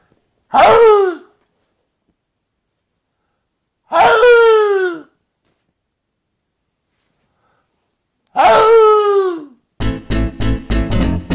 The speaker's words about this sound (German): In diesem Sinne verabschiede ich mich heute mit dem heiseren Bellen des Fuchses.